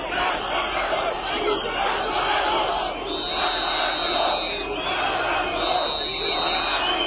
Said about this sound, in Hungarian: A Petőfi szobornál tartósi megemlékezés megkezdése előtt már kiabált és fütyült az összegyűlt tömeg